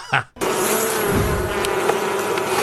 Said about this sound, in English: Bees making liquid gold, honey, an amazing sight. And they are essential to our food supply.